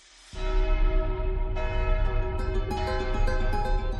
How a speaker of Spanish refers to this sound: Será un concierto de campanas, en el que un centenar de campanas, algunas muy emblemáticas, ahora te lo contaremos, van a sonar al unísono en un concierto organizado para celebrar el primer centenario fundacional